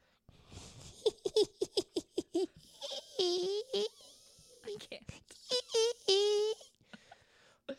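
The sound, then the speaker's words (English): A voice imitates a witch's cackle: a quick run of sharp, staccato 'ha' bursts, followed by several drawn-out, wavering high-pitched shrieks, loud and with no other talking. “No, it's just it that sound, the witch sound, is coming from what's the opening?”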